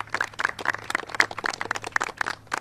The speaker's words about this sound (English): Let's have the congressional delegation a round of applause for them.